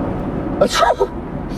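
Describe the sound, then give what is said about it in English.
A single quick, sharp sneeze bursts out near the middle, over a steady low background rumble that continues before and after it. “Bless you.”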